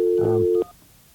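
touch-tone telephone dialing

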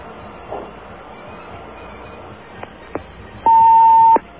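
answering machine beep

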